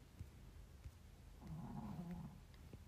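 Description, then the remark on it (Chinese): A Pomeranian dog named Taotao snores softly under a bed: one drawn-out, rasping breath rises out of the quiet for about a second, then fades back into low background hum. “你听到狗打呼噜了，真的？”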